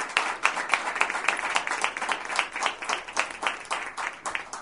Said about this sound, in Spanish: tener el placer de tener acá a la campeona del mundo, sin ninguna duda, para la que pido un fuertísimo aplauso, para la Tigresa Acuña.